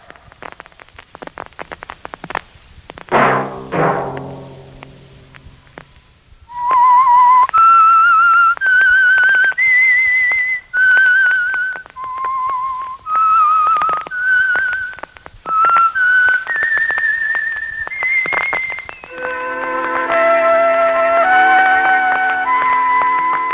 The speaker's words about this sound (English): Whistle be your signal for the Signal Oil program, The Whistler, each Sunday night at this same time.